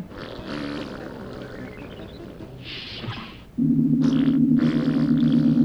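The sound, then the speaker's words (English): A loud, drawn-out farting sound from Americans aboard a spacecraft erupts suddenly and holds a low, buzzing rasp for about two seconds, following a stretch of rumbling, whooshing noise with no talking. “When the greasy Americans start to fart, open the pod bay doors.”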